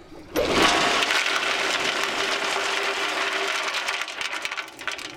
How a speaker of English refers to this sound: Bentonite is a kind of super absorbent clay that gets poured down the well to seal off the gas producing formations. Listen for the bentonite to hit the water at the bottom and we'll dump more.